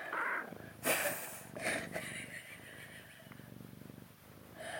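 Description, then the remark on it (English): A cat purrs, a steady low rumble pulsing in a rhythmic cycle, with a few brief rustling bursts like fur being stroked or handled near the start. “Furry purry putty tat.”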